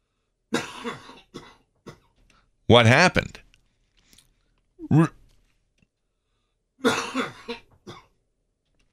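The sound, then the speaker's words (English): A loud, harsh cough bursts out, followed a couple of seconds later by a shorter, softer cough, with brief speech before and after. “I'm just coughing and turning myself off during that time.”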